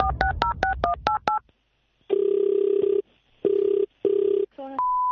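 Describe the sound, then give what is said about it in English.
A quick run of about seven keypad dialing beeps as a radio prank phone call is placed on East Coast Drive, then a telephone ringing tone sounding in four steady, evenly spaced bursts, ending with a short higher tone. No one speaks. “phone tapping today”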